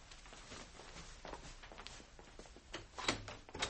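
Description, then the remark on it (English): A door is opened amid a series of soft footsteps and shuffling knocks, ending in a sharper clack of the latch and a final thump. No one speaks. “Open the door.”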